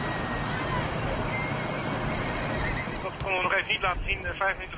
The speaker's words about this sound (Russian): Лошади галопом скачут за тепло укутанными наездницами, все как одна, в едином завораживающем ритме.